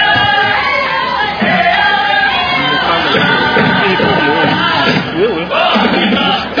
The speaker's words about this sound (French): C'est le deuxième temps fort. Le public applaudit. L'icône de la musique américaine, vêtue tout en noir, communique bien avec la foule.